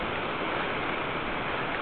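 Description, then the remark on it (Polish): Steady rush of cold seawater washing in over a sandy beach and over someone's feet at night, a continuous frothy hiss that holds at one level throughout with no voices. “Zimna woda na me stopy.”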